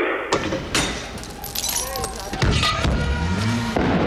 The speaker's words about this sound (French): De mes propres oreilles, j'ai vu des ricochets, les pains d'explosifs, les pétards qui sautent dans la rue. Vous entendez peut-être.